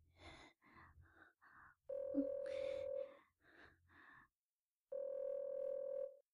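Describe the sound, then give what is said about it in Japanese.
A telephone rings with a steady electronic tone in long repeating bursts separated by short pauses, preceded by a few shorter chirping pulses, with no voices. “ご主人様、また電話が。”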